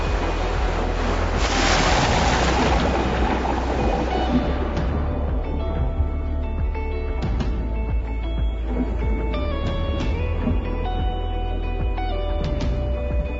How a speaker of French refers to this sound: Bon, cette vague, elle est trop haute, là. Celle-là aussi. À la prochaine, j'y vais.